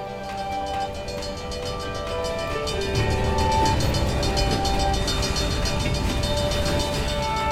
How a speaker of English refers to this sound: As you sit at a railroad crossing and wait for a train to pass, you see a series of railroad cars going by, which at times do seem like there is no end to them.